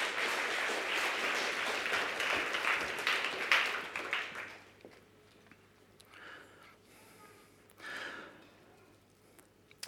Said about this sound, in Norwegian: Gi disse flotte ungdommene en fantastisk applaus.